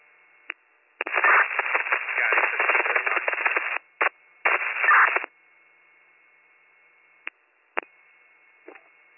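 Harsh, tinny radio static crackles in a long burst, then two shorter bursts, followed by a few faint clicks and squelch pops with silence between, like a garbled, failed transmission.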